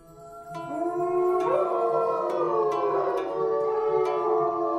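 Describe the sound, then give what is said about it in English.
Several wolves howl together in a sustained, overlapping chorus, long wavering tones rising and falling against each other, fairly loud and steady throughout, with no voices. “And they had a great open area for a large pack of wolves, and the wolves could roam from one end to the other.”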